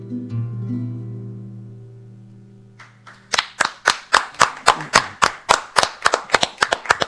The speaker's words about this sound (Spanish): Son pocos, pero buenos los aplausos. Somos muy buenos aplaudidores.